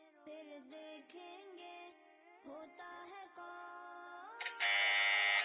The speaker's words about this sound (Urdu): ایک بار پھر عبداللہ نے بزر بجائی ہے.